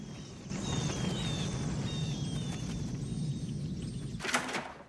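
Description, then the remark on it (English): A flock of birds takes flight above cornfields: a dense, continuous fluttering rush like many wings beating, with faint high chirps scattered above it and a brief louder whoosh near the end. “Above the cornfields, a flock of birds takes to the air and wafts across the sky.”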